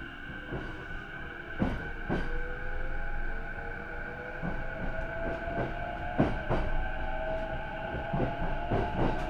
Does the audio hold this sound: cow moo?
no